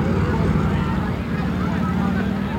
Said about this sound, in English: Traffic is stopped. And here come the police. One, two, three, four police on motor scooters. One demonstrator knocked down by a motor scooter policeman.